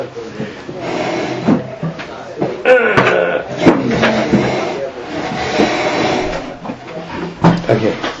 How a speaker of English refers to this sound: Oh, you maybe close this door too.